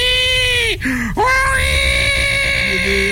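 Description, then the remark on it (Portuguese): A hungry baby cries loudly and insistently for milk, a sustained high-pitched wail broken by two quick gasping breaths before resuming at full strength. “Esse choro é agoniante, é choro de fome.”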